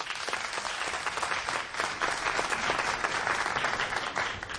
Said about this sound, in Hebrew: הוא יגיע לכאן בהמשך, אבל בואו ניתן לו מחיאות כפיים למר אבי רוזן, מנכ״ל רדיו קול חי.